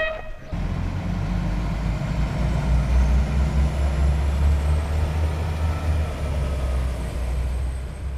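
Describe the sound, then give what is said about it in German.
A regional train on the RB 63 line rolls steadily along the tracks through the UNESCO Biosphere Reserve Schorfheide-Kurin, past fields, lakes and forests. Its deep continuous rumble and rattle fills the scene after a brief tonal note at the very start; no voices. “Eine Fahrt mit der RB-Linie 63 durch das UNESCO-Biosphärenreservat Schorfheide-Kurin.”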